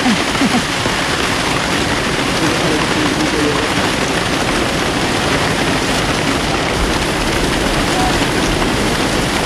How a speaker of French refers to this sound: Oh, c'est des gouttes énormes, c'est presque de la grêle qui tombe. Aqui a chuva é tropical.